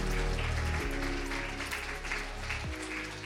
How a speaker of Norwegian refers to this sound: Ja, du må gi Jesus en applaus.